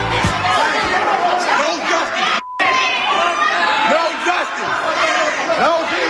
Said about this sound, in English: You hear all that yelling and that screaming? Yeah, that was going on in Memphis, Tennessee last night, and I had to get one of our friends on to talk about what happened at that incident.